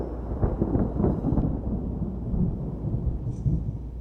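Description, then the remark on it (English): Deep, rolling thunder rumbles continuously through a storm as a wagon train heads west from Independence, Missouri, in May 1846, with heavy low-end booms swelling and fading over a steady wash of rain-like noise; no voices. “The next day, May 12, 1846, they headed west again in the middle of a thunderstorm.”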